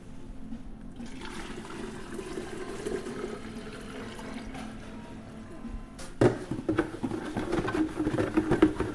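Liquid rushes and gurgles steadily as it is poured into a sample bottle being filled for a university hospital, turning louder and more splashy partway through with bubbling bursts. No one speaks.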